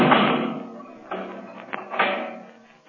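A heavy steel door slams shut with a loud, ringing clang, then several more metallic thuds and rattles follow, fading away with no one speaking.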